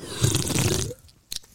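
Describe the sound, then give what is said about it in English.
A loud, wet slurping sucks in for nearly a second, broad and gurgly, then stops; after a short pause comes a brief sharp double sip or smack. “That is disgusting. Do you always drink like that?”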